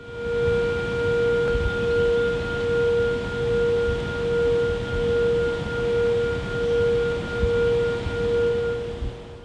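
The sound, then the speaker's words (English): A loud, steady warning siren at the Clater Lake Hydroelectric Facility on the New River in Pulaski County, Virginia, recorded in June 2013, alerting anglers; it holds a sustained high tone with faint harmonics, pulsing gently in volume outdoors over a low rumbling background, with no voices. “You heard a June 2013 recording of a warning siren at the Clater Lake Hydroelectric Facility on the New River in Pulaski County, Virginia.”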